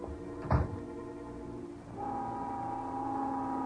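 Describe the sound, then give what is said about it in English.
A dull thump sounds, then a steady factory-style noon whistle somewhere in New York begins and holds one unwavering, moderately loud tone through to the end, with no one speaking. “Just then, the noon whistle blew somewhere in New York”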